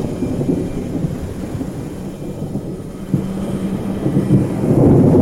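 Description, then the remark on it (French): A heavy thunderstorm breaks, deep low thunder rumbling continuously, rolling and swelling, with a sharper crack partway through and a louder surge building toward the end. “Enfin, comme si quelque chose s'était brisé, l'orage éclata.”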